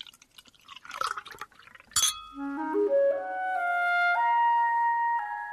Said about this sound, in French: Room service. C'est lui qui retire le bouchon et qui remplit les verres.